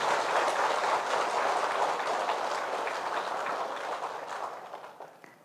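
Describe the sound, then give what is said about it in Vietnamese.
A crowd at a Vietnamese Buddhist community gathering in Taipei, Taiwan claps in sustained, dense applause, a steady wash of many hands that gradually thins and fades toward the end, with a few scattered final claps. “Hãy dành một tràng vỗ tay thật lớn để tán dương công đức của tất cả.”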